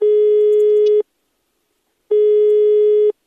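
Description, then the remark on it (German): A steady telephone line tone sounds in two one-second bursts separated by a second of silence, clear, like a busy signal with no voices present, on a phone call between two construction contractors in Italy, wiretapped by anti-mafia investigators half an hour after the L'Aquila earthquake. “Eine halbe Stunde nach dem Erdbeben in L'Aquila hören Spezialisten der Antimafia-Einheit Ross dieses Telefongespräch zwischen zwei Bauunternehmern ab.”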